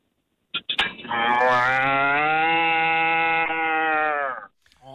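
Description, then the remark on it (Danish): A person's voice imitates a cow, producing one long, loud, sustained moo of about three and a half seconds, steady and droning, preceded by a brief breathy onset. “jeg kunne godt tænke mig at høre dit allerbedste mu”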